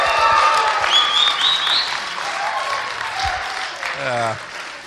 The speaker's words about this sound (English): It's a good night in church. It's not wrong for us to praise God vocally loud with clapping